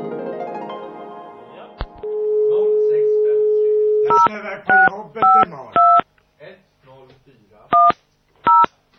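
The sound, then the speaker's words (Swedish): A steady dial tone hums briefly, then a series of distinct two-pitch beeps from an old push-button telephone being dialed follows, short and evenly spaced, with a couple more after a pause and some soft talking between them. “Och om man ska gå efter när vi ringde folk också, då hade vi en klassisk jävlar gammal knapptelefon som lät när vi ringde med.”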